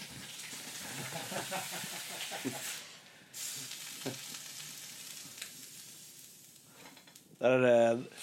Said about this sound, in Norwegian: Der koker det litt over midt i den spennende historien her. Ja, det lammegryte.